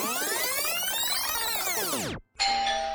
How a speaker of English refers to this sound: The doorbell rings as the weary traveler arrives first.